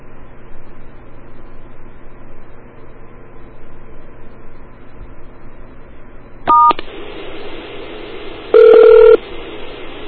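Telephone keypad tones heard over a hissy phone line, recorded with a microphone held right against the phone: one short dual-tone beep, then about two seconds later a louder, slightly longer tone, with no one speaking.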